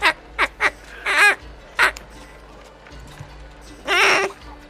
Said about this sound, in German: Du ziehst es raus und du siehst, dass du eine Ente rausgezogen hast, die du im Hals gepackt hast. Eine Ente?